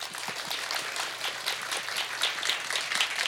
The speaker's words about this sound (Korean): 여러분 큰 박수로 다음 무대를 맞이해 주십시오.